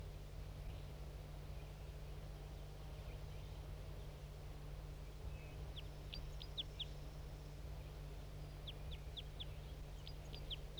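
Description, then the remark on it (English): A male bird sings two short bursts of thin, high, rapid chirping notes, fairly faint above a steady low rumble and hiss. No one speaks. “Two birds joining that male who was singing.”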